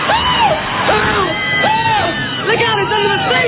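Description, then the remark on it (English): A movie theater audience screams and shrieks together at the Tingler, a dense wall of overlapping high-pitched cries rising and falling continuously throughout, loud. “Ladies and gentlemen, the Tingler has been paralyzed by your screaming.”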